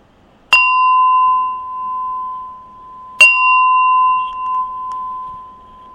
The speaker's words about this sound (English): I will now ring the gong and you can all come out of your meditation.